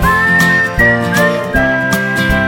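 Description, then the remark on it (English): A bright, clear whistled melody carries over a steady musical backing with a rhythmic beat, the tune sliding between sustained notes at a moderately loud level. “I'm in the mood for whistling. Whistling along with you.”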